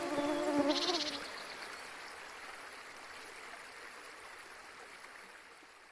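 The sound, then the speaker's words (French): A droning mosquito buzz hums for about a second at the start, then drops away, leaving a steady soft hiss like running water. “tandis que ses compagnons dormaient d'un gros sommeil, en dépit du bourdonnement des moustiques.”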